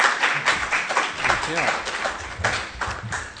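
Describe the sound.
An audience applauds steadily, a dense wash of many hands clapping at once, with a voice briefly rising above the noise partway through.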